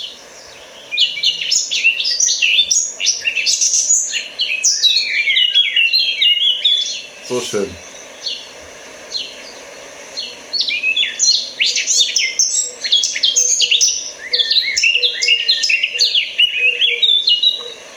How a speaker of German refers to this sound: Ja, es ist eben eigentlich fast zwischen Amsel und Nachtigall. Genau. Und ich weiß, warum es einen nervös macht. Ich lasse noch mal kurz singen, bevor ich weiterrede.